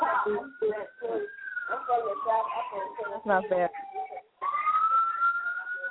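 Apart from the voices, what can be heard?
siren in the background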